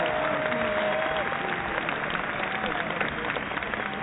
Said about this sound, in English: We'll look back on this whole Duke national championship, and as painful as it may sound, about a round of applause for the Duke Blue Devils winning another championship.